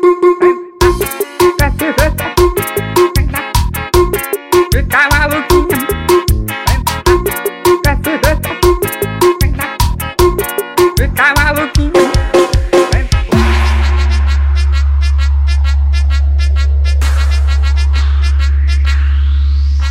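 A car sound system blasts loud, punchy music with hard rhythmic beats, then switches to a deep, sustained bass drone with sweeping tones. The sound is heavy, with no voices.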